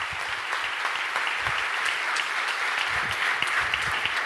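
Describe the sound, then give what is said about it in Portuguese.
A church audience applauds its volunteers steadily, a dense wash of many hands clapping at an even loudness throughout, with a few individual claps standing out from the crowd. “Você pode dar um aplauso?”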